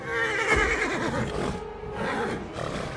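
A horse whinnies loudly, its wavering neigh rising and falling in a long quavering call, followed by a shorter snort-like neigh toward the end.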